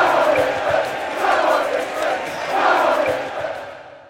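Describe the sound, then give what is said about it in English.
A large stadium crowd chants and shouts in unison, the dense roar swelling in rhythmic waves roughly every second before fading out at the end. “But when the entire crowd is chanting together, that's a whole other challenge.”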